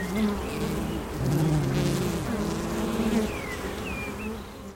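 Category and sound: insect, honeybee colony buzzing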